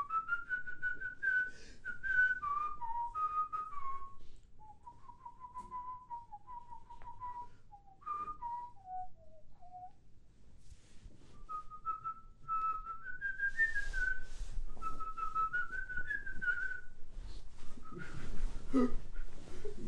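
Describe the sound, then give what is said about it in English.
A person whistles a wavering tune while being tickled, the melody rising and falling in short phrases with brief pauses, some notes breaking unsteadily, with faint rustling and breathy noise in the background. “It's very difficult to whistle sensibly when you're being tickled.”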